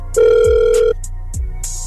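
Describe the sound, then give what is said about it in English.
A single loud burst of an outgoing phone ringback tone, a steady electronic hum lasting under a second, followed by quiet line noise with faint hissy bursts and low thumps in the background. “So stay on the phone. We'll give her a call next, okay?”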